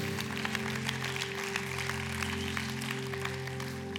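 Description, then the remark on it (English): An audience claps steadily throughout, a dense, even patter of many hands without a clear rhythm, over a sustained low droning tone that holds underneath. “And we almost have enough people clapping.”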